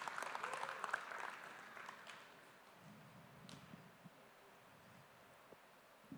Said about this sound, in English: Thanks, guys. They deserve another clap.